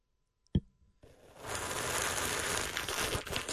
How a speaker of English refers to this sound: All right, here we go. ASMR, once again. I'm gonna take it down. I want that sip right to the microphone. Here we go.